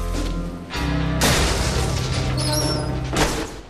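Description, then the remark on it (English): A steel inner door of a jail is kicked open with a sudden loud bang, followed by a sustained metallic clatter and rumble that lingers for a couple of seconds before easing off. No voices. “Jack arrives at a steel inner door and boots it open.”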